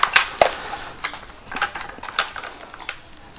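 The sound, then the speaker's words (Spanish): Small metal tools, tweezers and scissors, clink and tick as they are handled, a scattered run of light, sharp clicks, with no talking. “Mira, mis pinzas. Mis tijeras.”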